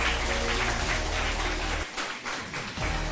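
A large audience of Bunia residents in a hall, gathered to discuss ending insecurity in Ituri province, breaks into steady applause for themselves, a dense wash of many hands clapping that holds at a fairly even level, thinning briefly toward the end before swelling again. No one speaks.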